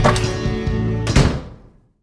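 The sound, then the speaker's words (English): A door handle rattles and clunks as someone tries it, followed by a solid thunk as the door swings open, with the sound trailing off into quiet. Fairly loud, no voices. “Look, let's try this door!”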